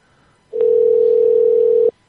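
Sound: telephone busy signal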